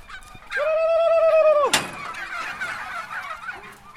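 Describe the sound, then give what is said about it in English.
Bronze turkeys call on a farm: one long, loud, nasal note holds for about a second, ends in a sharp rattling burst, then softer gobbling and clucking chatter continues in the background. “Ah, look at them. Bronze turkeys, are they? Bronze turkeys.”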